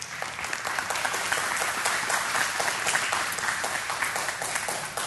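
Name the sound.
audience clapping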